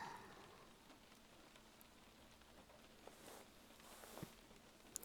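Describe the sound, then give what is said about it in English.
Steady rain patters against a windowsill, a soft continuous hiss with scattered sharper drips and taps, a couple of louder splashes near the end. No voices. “The rain is so relaxing, isn't it?”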